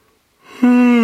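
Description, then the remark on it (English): A single loud yawn: a breathy intake swells, then breaks into a steady, sustained voiced tone that holds to the end. “If you didn't yawn just then, you're a psychopath.”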